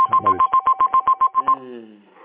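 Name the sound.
telephones ringing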